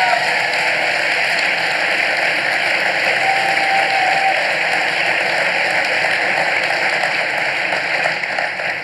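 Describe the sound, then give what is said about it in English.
A large audience applauds steadily for several seconds to welcome the guests of a discussion, a dense, even wash of many hands clapping at once, sustained loudly throughout with no voices standing out. “So one more time, just please give a warm round of applause to my guests, John Lennox and David.”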